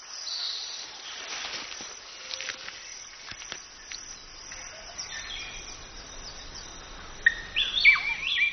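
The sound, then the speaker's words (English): A busy chorus of bird chirps and calls fills the canopy of a fruiting fig tree, mostly soft, with a few sharper, louder whistles breaking through near the end. “Figs are so popular that as many as 44 different kinds of bird and monkey have been seen working a shift system on a single tree.”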